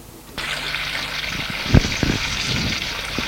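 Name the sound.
shower running water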